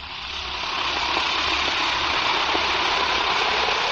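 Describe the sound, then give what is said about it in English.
An Alka-Seltzer tablet fizzes in water, giving a steady, dense crackling hiss that swells in over the first second and then holds evenly, with faint pops scattered through it and no voices. “Now listen to it fizz.”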